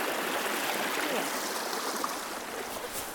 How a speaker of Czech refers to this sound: No a my už se vydáváme dál cestou, takovou šotolinovou, podél potoka. Teď dokonce je potřeba potok přejít.